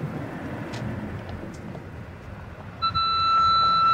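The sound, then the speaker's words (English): Low road rumble from a moving car driving toward Inglewood Cemetery, then near the end the car's bright electronic warning tone switches on and holds steadily, clear over the engine noise. “The car beeps at me.”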